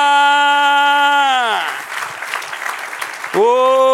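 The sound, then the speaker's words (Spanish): An audience breaks into a brief burst of clapping and cheering, given as applause to the one who reigns. A loud sustained tone slides down in pitch before the applause and swells back up after it. “Del otro aplauso al que reina.”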